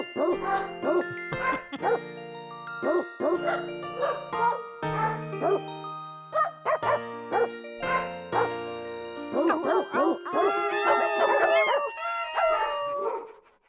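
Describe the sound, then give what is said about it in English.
Dog barks and howls, pitched to different notes, strung together into a bouncy melody that repeats quickly, a song performed by dogs found on YouTube. The ending swells into overlapping wavering howls, all loud with no talking. “If you look up any song on YouTube and say "there's dogs," performed by dogs, it will come up.”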